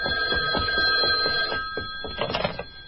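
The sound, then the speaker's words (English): An old-style telephone bell rings continuously, a bright metallic trill with a rapid rattling pulse that holds steady for about three seconds, with no voices over it. “I think I hear the telephone. Let it ring.”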